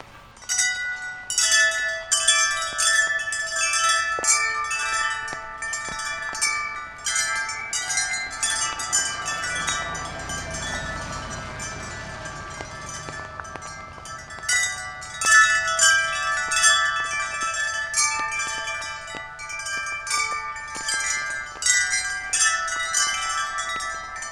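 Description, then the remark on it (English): Bright metallic wind chimes ring in a dense, shimmering cascade, tones overlapping and sustaining for over twenty seconds, fairly loud with no voices. Clusters of tuned silvery aluminum chimes hang in a 28-foot-long, 8-foot-high open-air chime arbor tunnel and are brushed by hand one after another in sequence. “First, he shows us his 28-foot-long, 8-foot-high chime arbor, an open-air tunnel from which hang clusters of tuned silvery aluminum wind chimes.”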